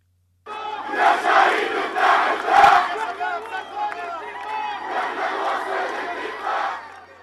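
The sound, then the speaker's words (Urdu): A large crowd of Palestinian mourners in East Jerusalem, waving Palestinian flags while carrying a killed young man's body through the streets, shouts and chants slogans together in loud, overlapping voices, with rhythmic surges of collective yelling that continue steadily for several seconds. “سوگواران نے فلسطینی جھنڈے لہراتے ہوئے نعرے بازی کی اور ہلاک ہونے والے فلسطینی نوجوان محمد ابو خزیر کی میت کو سڑکوں پر لے جایا گیا.”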